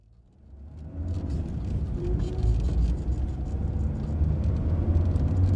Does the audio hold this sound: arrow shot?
no